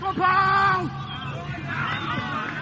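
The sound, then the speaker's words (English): Outdoor crowd murmur at a cricket match, with a loud, drawn-out call rising above the hubbub near the start, then a steady wash of chatter and voices. “And various cricket noises.”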